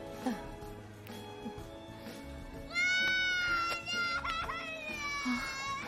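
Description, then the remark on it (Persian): A young child wails in loud, sustained cries that rise and break, close by, over a busy background of chatter and room noise. “شنیدم بعضی از بچه ها از بابا نوئل میترسن، ولی اونا کل روز رو دارن گریه میکنن.”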